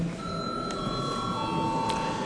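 A steady electric voting bell rings without pause for a couple of seconds in the Latvian parliament (Saeima), calling a vote on granting unpaid leave, a sustained bright metallic tone over a faint murmur of voices.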